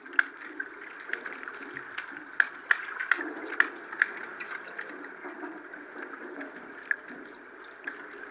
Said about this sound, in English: So that's what we recorded. It was beneath the water with the hydrophone.